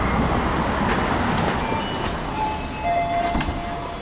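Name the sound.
commuter train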